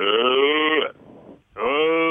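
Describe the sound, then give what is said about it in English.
A person imitates a cow as a vocal exercise, with two loud, drawn-out mooing calls, the first lasting under a second, then a brief breathy pause before the second begins rising in pitch. “Imitate a cow.”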